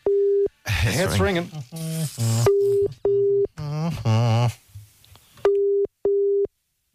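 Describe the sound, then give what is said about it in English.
A WhatsApp video call ringing tone sounds in short, steady electronic beeps, paired and repeating, clear, while people talk over it in the middle. “It's ringing.”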